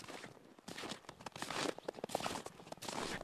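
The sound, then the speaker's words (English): Footsteps crunching steadily over snow and ice on a glacier, each step a crisp, gritty crunch in an irregular walking rhythm, with nothing else audible. “But the only sound is the crunch of your footsteps around here.”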